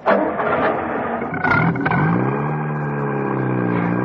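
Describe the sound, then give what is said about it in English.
The engine of Mrs. Peel's open sports car turns over and catches, revving sharply before settling into a steady rising drone as the car pulls away to follow another car, loud with no voices. “And so, just after noon the next day, John Steed and Emma Peel, in Mrs. Peel's open sports car, waited outside Makidoki Court.”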